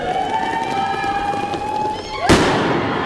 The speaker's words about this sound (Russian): В конце под бурные аплодисменты вспыхнули фейерверки.